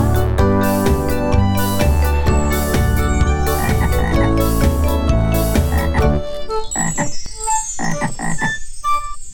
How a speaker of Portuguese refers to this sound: O sapo na beira da lagoa não tem, não tem rabinho e nem orelha.